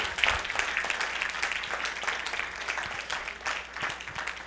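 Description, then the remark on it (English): A church audience applauds steadily for several seconds, giving the Lord a big hand, a dense, crackling wash of many hands clapping at once, fairly loud and even throughout with no voices over it. “Let's give the Lord another great big hand.”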